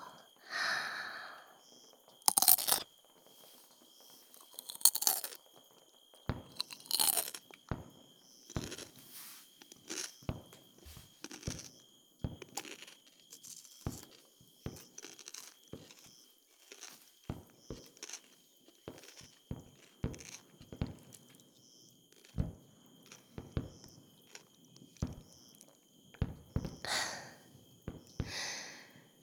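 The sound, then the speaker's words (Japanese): Crisp crunching of raw cucumber eaten with beer, a few louder bites followed by many quick, irregular chewing crunches, with soft breathing between and no talking. “そして苦味が若干残っているうちにきゅうりを。”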